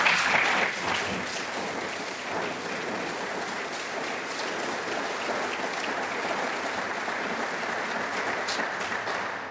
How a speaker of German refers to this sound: Danke für den Applaus, aber es ist schade, dass man da überhaupt applaudiert, denn das sollte selbstverständlich sein.